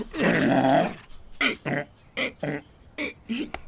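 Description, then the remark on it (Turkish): A rough growl lasting about a second from a skinny, scrawny dog, followed by a run of quick, rhythmic panting breaths, about eight short huffs in steady succession. “Bir süre yol aldıktan sonra karşısına bir köpek çıkmış. Köpek de sıska, cılız, nefes nefeseymiş.”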